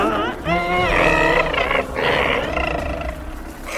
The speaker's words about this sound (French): Les deux enfants s'éloignaient de Kalmada lorsqu'ils entendirent un grognement intense.